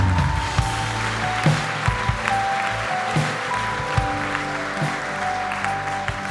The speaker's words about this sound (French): On peut applaudir et encourager les femmes.